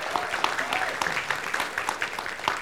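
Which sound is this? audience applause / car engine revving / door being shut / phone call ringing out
audience applause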